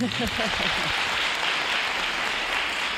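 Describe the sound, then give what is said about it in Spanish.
Steady audience applause for Blanca del Rey, who received a tribute alongside other great ladies of the performing arts, a dense wash of many hands clapping at an even, loud level throughout, with a brief voice heard under it at the very start. “Blanca del Rey ha recibido un homenaje junto a otras grandes damas de las artes escénicas y yo creo que merece un aplauso, ¿no?”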